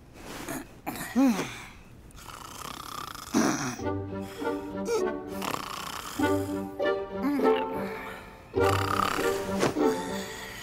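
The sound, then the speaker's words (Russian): Loud, exaggerated snoring repeats in rough cycles every couple of seconds, each a rumbling, tonal snort rising and falling, with no talking. “Перестань храпеть!”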